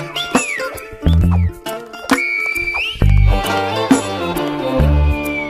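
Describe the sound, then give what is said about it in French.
El Silbo whistled language echoing between mountains: shrill, gliding whistles rise and fall in pitch, some sustained and some clipped short, over heavy low thumping tones that come and go in pulses. “On entend El Silbo. On écho.”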